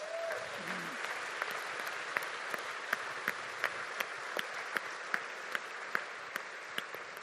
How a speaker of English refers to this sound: We are grateful that you could join us. We do want to give one more round of applause. We want to thank our hosts, the Royal Conservatory of Music, so we could just give them a hand as well.